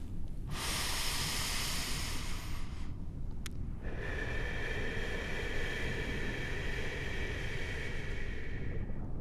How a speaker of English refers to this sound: So, as you break the surface of the water, you take a nice big breath of air through the blowhole on the top of your head. Take a deep breath in and let a big breath out.